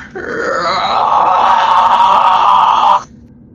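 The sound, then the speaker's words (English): A person voices the screech of a hunchbacked, gray ash-skinned monster with spikes: one sustained, raspy, strained cry lasting about three seconds at steady loudness, then cutting off abruptly. “You see it lumbers with a hunchback in its gray ash skin, kind of peels over the side, and it lets out a horrible screech.”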